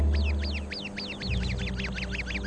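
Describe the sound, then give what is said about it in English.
An Arabian babbler on sentry duty for its flock sounds a harsh, rapid alarm call as danger comes: a fast, insistent series of rasping notes repeated over and over, loud, with a low rumble of background noise underneath. “The Arabian bird, on guard duty, immediately sounds the alarm when danger comes.”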